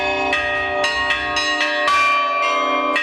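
Church bells peal in a quick, uneven sequence of strikes, their bright overlapping tones ringing on between hits. The ringing is loud, with no voices.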